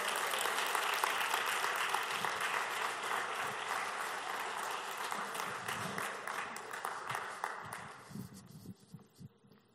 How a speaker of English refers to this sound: We're going to celebrate something God did that only God, go ahead, you can clap. The other half will have an opportunity later to clap.